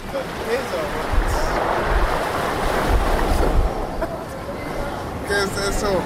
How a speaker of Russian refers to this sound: Наконец-то океан Атлантический. Покой, шум прибоя.